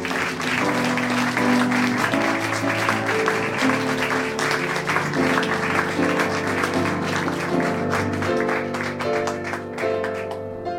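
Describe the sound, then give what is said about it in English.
A large audience applauds loudly and steadily for about eleven seconds to welcome the next storyteller, a dense wash of clapping with sustained musical tones running underneath. “Clap your hands, get excited”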